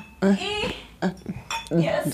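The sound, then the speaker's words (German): Glasses of water clink together in a toast, a few light taps with a brief ringing tone, mixed with voices chattering around them. “Wollen wir anstoßen? Yes, yes, please. Okay, mit Wasser.”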